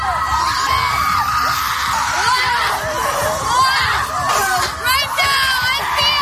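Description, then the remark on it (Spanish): A group of women at a wellness retreat in the United States scream and yell together loudly and continuously, their shrill voices overlapping, while they beat sticks on the ground in dull rhythmic thuds throughout. “por pasar un retiro de bienestar para pegar palos en el suelo y gritar.”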